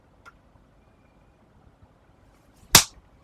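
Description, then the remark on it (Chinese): A single loud, sharp slap across the face cracks out after a stretch of near silence, preceded by a much fainter, brief smack early on. No one speaks. “要不是这里没鞭子，我可不会只扇几个巴掌就放过你了。”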